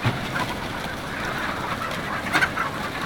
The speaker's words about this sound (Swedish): Speciellt utsatta är höns som växer upp i tusental i stora hallar.